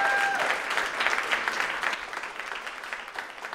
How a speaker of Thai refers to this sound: ขอเสียงดังๆปรบมือต้อนรับ